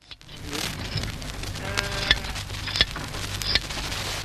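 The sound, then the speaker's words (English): Hand blade shears working through the fleece of a very big stud Romney ram at Werribee: a steady crackling rustle broken by a few sharp metallic snips at irregular intervals, with no talking. “There's no need for me to tell you, of course, that this is hand shearing being done at Werribee on the stud rams.”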